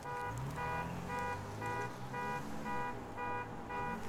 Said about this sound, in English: People and their stupid car alarms. They're the most annoying thing I've ever seen in my life, how people think that that's going to deter a burglar. That doesn't one bit. It just annoys everybody. Because nobody comes out and checks.